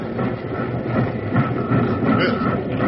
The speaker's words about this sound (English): Well, I've got these throttles wide open. Go, you iron horse. Go!